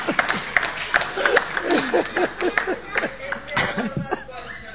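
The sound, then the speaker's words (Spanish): A burst of clapping from a small audience at a radio show, dense and steady for a few seconds, mixed with chatter and a bit of laughter. “No lo aplaudan, que va a venir un bis, por favor.”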